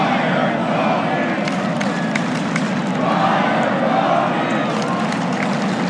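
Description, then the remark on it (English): A large stadium crowd roars and cheers in a steady, loud wall of voices, with scattered shouts and whistles rising above the dense din throughout. “That crowd can't wait.”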